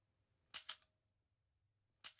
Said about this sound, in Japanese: はい、じゃあポーズ取るからしっかりシャッター切ってね。